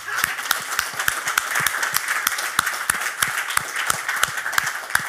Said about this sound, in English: A big round of applause